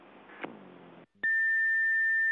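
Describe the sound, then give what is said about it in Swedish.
After a short burst of muffled noise and a brief silence, a telephone answering machine lets out one loud, steady electronic beep, the signal to leave a message, holding its pitch for over a second. “Du har kommit till Hej, domstols telefonsvarare! Lämna meddelande efter pipet!”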